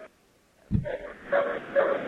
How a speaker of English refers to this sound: There were a group of dogs that were surrounding people and barking away, so it was a little hard to hear you. But police dogs with muzzles on them as they slowly try to move the crowd back and out away